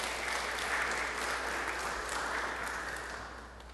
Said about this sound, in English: Can you give them a round of thanks as well? Even in the middle of a sermon, can you clap your hands together and thank one another?